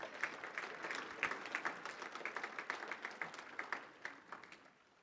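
A church audience applauds itself for its volunteer service, many hands clapping steadily in a dense, rapid patter that holds for several seconds before gradually tapering off, with no voices over it.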